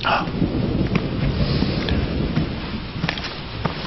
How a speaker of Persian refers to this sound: بله، شب بارانی زیباییه، آدم یاد لندن میندازه.